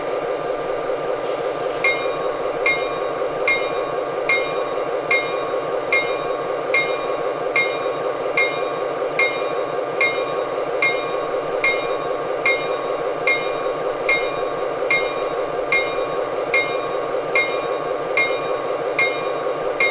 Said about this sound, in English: Now arriving on track one from Chicago, train number 53, the city of Miami.